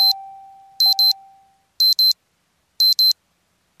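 A sharp, high-pitched alarm clock beeping in quick double pulses, repeating about once a second, loud with no voices. A fading tone lingers underneath at the start.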